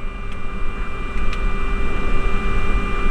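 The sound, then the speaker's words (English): Aircraft engines idle after engine start in a steady drone, a continuous low rumble layered with several sustained whining tones, holding even throughout with no voices. “All engines are idle, engine start checklist complete.”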